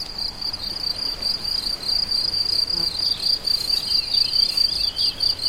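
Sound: many crickets chirping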